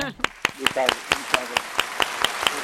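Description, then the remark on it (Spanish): Steady, rhythmic applause on the Paralelo 20 travel program: about a dozen sharp, evenly spaced claps in quick succession, with voices talking and exclaiming underneath at the start. “Bueno, un aplauso, ¿no? Se merece el aplauso del día, ¡qué bonito!”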